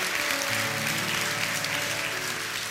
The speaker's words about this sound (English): Come on, if you meant that, give the Lord a lot of hand clap and praise. It works.